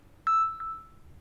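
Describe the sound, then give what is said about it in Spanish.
Two short electronic beeps at the same steady mid-high pitch, the first slightly longer, followed by a fading ring of the tone, with no voices present; a signal tone in a Spanish speaking exercise, marking the pause after each sentence in which the listener repeats it. “y te voy a dejar un espacio de tiempo luego de cada una, luego de escuchar la señal sonora.”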